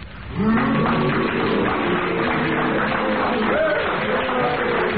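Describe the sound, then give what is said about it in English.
A studio audience boos loudly with long, wavering low groans, mixed with a steady rush of clapping, sustained for about five seconds with no talking, as they judge whether Derek Nimmo's challenge of deviation was justified. “If you do, will you clap? And if not, will you boo?”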